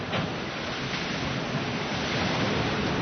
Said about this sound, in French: Bon, là, le vent rentre. Le barreau baisse bien gentiment.